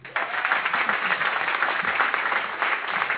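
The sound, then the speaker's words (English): An audience claps steadily to welcome HBO Def Poet Chanel Gabriel before her poem A Message to My Girls, a dense wash of many hands at a fairly even loudness that holds throughout with no pauses and no voices rising above it. “Put your hands together for Chanel.”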